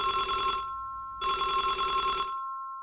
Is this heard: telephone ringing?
yes